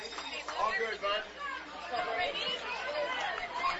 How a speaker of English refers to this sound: And the crowd has really filled up here now. More people in the outfield on their tailgates and plenty of people behind me in the stands. Full house tonight here at West End Park and Industry.